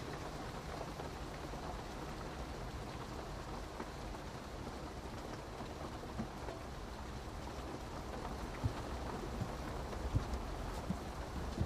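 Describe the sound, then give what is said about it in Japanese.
Steady rain pours down in a dense, continuous hiss, with occasional louder drops spattering; no voices, and a faint low rumble hints at thunder. “雨、大変でしたね。”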